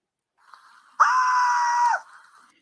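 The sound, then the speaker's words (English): A single piercing, sustained scream rings out for about a second, loud, rising abruptly out of faint background commotion and cutting off just as suddenly, as fans flee the stands during a game in Washington, D.C., after someone reportedly yelled gun. “Footage recorded during the game shows fans completely emptying the stands, in addition to players and coaches running from the court.”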